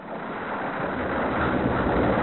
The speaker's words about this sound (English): What's that noise? Oh, that? It's just volcanoes and earthquake and some thunder. Calm down, everybody. Calm down. No need to worry. That was just a sound from the golden record. Along with the images and greetings, there are also sounds from Earth.